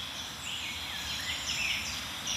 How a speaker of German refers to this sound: Das ist so ein richtig schönes, eine richtig schöne Begrüßung an der Kante. Dafür ist die Grasmücke ja auch bekannt. Sie liebt so diese Hecken und Sträucher, dichte Brombeerhecken.